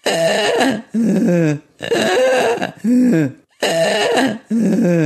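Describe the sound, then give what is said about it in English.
A 23-year-old cat snoring: three loud, rhythmic breath cycles, each a harsh, raspy rattle in two parts, with brief pauses between them and no talking. “I had a 23-year-old cat who you could certainly hear snoring.”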